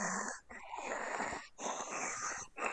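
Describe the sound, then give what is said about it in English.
A voice imitates heavy, rasping breathing through a gas mask, like miners in full gear with face masks walking around a mine in a movie: loud wheezy inhales and exhales in a slow steady rhythm, about three breath cycles with brief pauses between them. “Oh, so it's a lot like, you know, Darth Vader's, like, breathing apparatus.”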